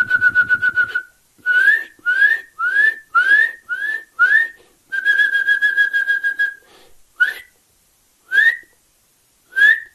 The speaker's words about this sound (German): Sein Gesang besteht nämlich auch aus seinen Rufen. Ihr müsst genau hinhören, wie ist die Art und Weise, wie er seine Rufe aneinanderreiht und wie er sie vorträgt. Und wenn ihr da euer Ohr schult, Kleiber in eurer Nähe hat, diese üb, üb, üb, üb.